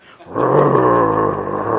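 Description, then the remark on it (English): A person growls like a dog, a low, rough, sustained rumble lasting over a second, loud with no other sound around it. “So that when somebody starts up on a bad subject around your children and everything else, they might hear a growl.”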